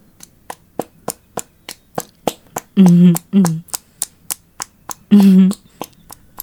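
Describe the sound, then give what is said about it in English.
Steady, rhythmic slapping of buttocks clapping together during a lap dance, about sixteen sharp smacks at an even pace, broken by a few short, drawn-out vocal moans. “Do you like my ass clapping in your face, Daddy?”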